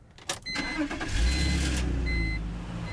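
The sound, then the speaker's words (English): A shared rental car's engine cranks and starts, settling into a steady low rumble that swells as the car pulls away, with faint electronic beeps above the engine noise. “And then you just pop it in and drive away.”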